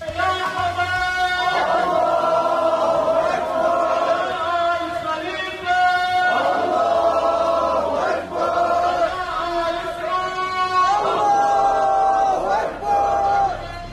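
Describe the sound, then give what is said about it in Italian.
A street protest crowd in the streets and squares of Bahrain, protesting against an agreement, chants loudly and continuously, many voices shouting in unison with rhythmic rises and brief dips between phrases, sustained over the whole stretch. “anzi forse possiamo farvi sentire le piazze e le strade in Bahrain in cui si protestava contro questo accordo che va sostanzialmente a calpestare la causa palestinese.”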